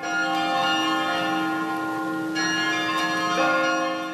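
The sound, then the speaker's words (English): Large bells of the campus Campanile bell tower ring continuously with rich, sustained overlapping tones, one fresh strike arriving near the end; loud and resonant, with no voices present. “I was walking through campus, and I heard the Campanile, and I said, oh no, this is definitely something to tape.”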